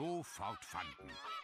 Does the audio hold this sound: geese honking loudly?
yes